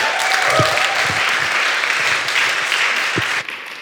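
A crowd claps steadily and fairly loudly, a dense wash of many hands with occasional louder individual claps, sustained for several seconds before beginning to taper off.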